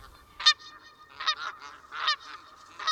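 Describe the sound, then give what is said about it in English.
Canada geese honk repeatedly overhead at the Teller Lakes trailhead off Arapahoe, above a field of winter wheat, a series of loud, nasal calls in irregular bursts, several birds overlapping with no one speaking. “From this point at the Teller Lakes trailhead off of Arapahoe, you can see a field of winter wheat greening up and hear the exciting call of wild geese overhead.”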